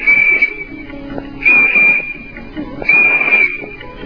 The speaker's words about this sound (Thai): มันเข้าเอามือใส่ปากเป่าทำไมอ่ะเสียงวิดวีดสามครั้งดูเหมือนเสียงจะดังไปไกลมากทีเดียว